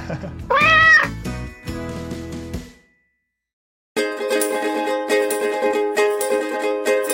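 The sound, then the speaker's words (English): A cat lets out one loud, drawn-out meow, followed by some rustling noise, a few seconds of silence, and then music begins. “I figured why not name it after a cat that's been out in the wild and who knows what he's been through, returned, and is living a nice life now, you know?”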